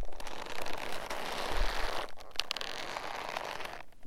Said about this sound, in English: They had a pile of these, and I went through them until I found the one that was, you breathed on it, it would make an incredible leather creak.